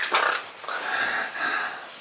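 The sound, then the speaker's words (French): A person imitates a pig snorting through its snout, making a few rough, breathy nasal snorts in quick succession, fairly loud, with no talking. “Je ne sais pas si vous avez vu un cochon, c'est quand son groin fait comme ça.”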